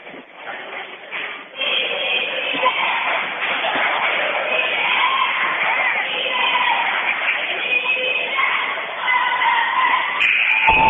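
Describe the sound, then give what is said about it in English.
A lively basketball crowd cheers on the T-Jacks in a dense, steady roar that swells after the first second and a half and then holds loud and unbroken to the end, with shouting voices blended into the din. “We've got a very lively group here tonight cheering them on.”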